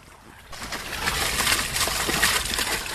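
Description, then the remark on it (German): A small fountain splashes steadily into a small pond with clear water, spanned by a bridge, in a district teaching garden: a continuous bright patter of falling water that swells in after a quiet start and stays fairly loud. “Ja, hier plätschert so ein kleiner Brunnen vor sich hin in so einem kleinen süßen Teich und darüber führt auch wieder hier so eine schöne Brücke.”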